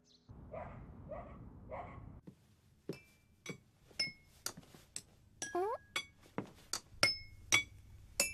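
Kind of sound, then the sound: household object, dishes clinking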